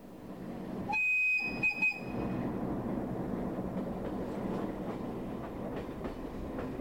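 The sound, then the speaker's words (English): A train travelling from Berlin across the border to Prague rolls steadily along the rails with a loud, continuous rumble and occasional clacks, briefly joined near the start by a high, tonal whistle or squeal. “I left Berlin by train on a Friday morning, the day after Thanksgiving.”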